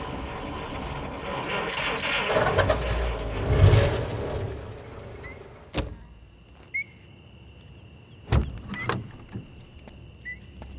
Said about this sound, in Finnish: Onni ei kuitenkaan ollut hänen puolellaan. Auto köhisi muutaman kerran ja pysähtyi keskelle pimeää tietä vain peltoja ympärillä.